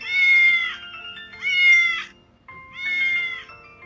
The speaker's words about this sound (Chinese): 小朋友们，你们知道这是谁在叫吗？ 咦，我知道，这是小猫咪在叫呢。 猜对了。这是小猫咪在叫呢